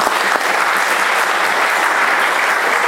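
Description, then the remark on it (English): People at a church clap together for the choir and singers, a dense, steady wash of applause that stays loud and even throughout, with no one speaking over it. “So let's give the voice of the church a clap.”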